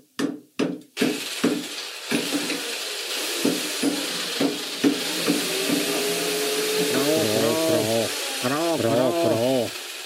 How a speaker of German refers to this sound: Tagelang hämmerten, bohrten und schraubten sie in ihrem Keller.